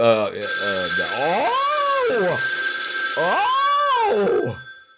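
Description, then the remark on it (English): A telephone rings loud, a steady electronic tone under two long wailing, rising-and-falling swoops that sound almost like a cat's meow, before cutting off. “I don't like that. It's a death phone.”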